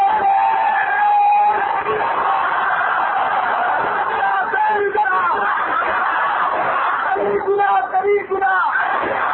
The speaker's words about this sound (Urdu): زور سے نعرہ لگاؤ تنظیم کا،